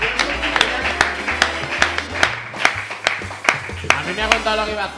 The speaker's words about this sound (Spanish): Venga, pero esto quizá haya sido la mejor sección de humor de la historia del programa, ¿no? Un aplauso para ti.